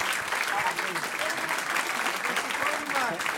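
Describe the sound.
Steady audience applause fills the whole stretch, a dense, even patter of many hands clapping, with faint voices mixed in beneath it; the applause is for a performer on stage.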